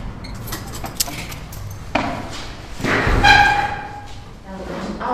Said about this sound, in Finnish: Riittää, että saa pidettyä sen verran ovea, että saa pyörän sisälle.